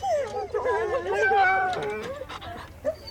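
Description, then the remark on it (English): A small dog on a leash, wanting off the leash, whimpers in a long, wavering, high-pitched whine, followed by a few short, sharp yips near the end. “This little guy really wants off his leash, and there are lots of places he can do that.”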